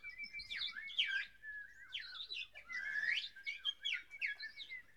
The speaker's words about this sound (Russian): Стояло лето, и в лесу пели птицы.